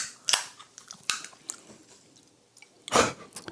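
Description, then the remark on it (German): Crinkling of a snack bag mixed with crunchy chewing as a man goes at his bag again, coming in short irregular bursts with a louder rustle near the end and no talking. “oh, jetzt geht er wieder an seine Tüte ran, Alter, ich werd wahnsinnig.”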